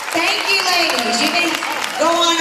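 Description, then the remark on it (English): Steady, loud applause from an audience at the Mrs. Texas beauty pageant, as contestants appear for the swimsuit segment, fills the whole stretch as a dense crackling wash, with a voice carrying over the top of it. “Nice round of applause.”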